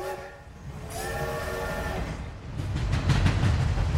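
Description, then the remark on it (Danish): An old-fashioned steam locomotive sounds a steady, multi-toned whistle for about two seconds, then rumbles on with a louder, rhythmic chugging and rattling of wheels. No voices. “Så med dampskib eller gammeldags damplokomotiv.”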